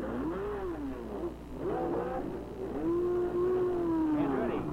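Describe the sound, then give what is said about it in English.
A.J. Foyt's race car engine revs hard as it pulls away from a mid-race pit stop back into the race, its pitch climbing and dropping through several gear changes, loud with a steady low rumble underneath. “And there goes Foyt on his way back into the race.”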